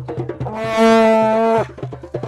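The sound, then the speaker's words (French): A loud, brassy foghorn-like blast holds steady for about a second, rich and droning, while a low rhythmic thumping beat pulses before and after it. “Dit-il avec sa corne de brume.”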